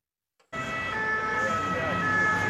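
An ambulance siren blares steadily after a brief silence, its high tones wavering over the low rumble of road traffic and engine noise, staying loud throughout, as the ambulance heads to the impact site of a Russian missile attack in Poltava.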